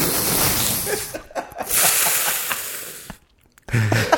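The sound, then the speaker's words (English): A voice imitates ocean waves with breathy, rushing hisses that swell and fade in a few uneven surges, broken by brief silences, ending on a slightly throatier burst. “Or that was either the ocean or a respirator.”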